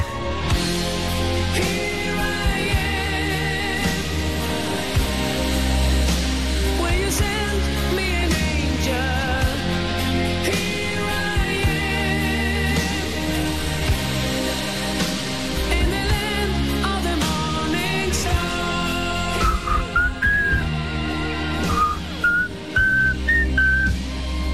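A 1990s rock power ballad plays steadily at full volume, with a deep bass foundation, sustained chords and a high melodic lead line gliding over the top, with no talking throughout.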